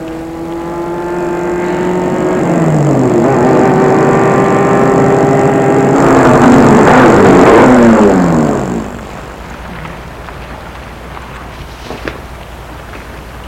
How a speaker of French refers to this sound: Tout à coup, une voiture va vers elle, une voiture noire.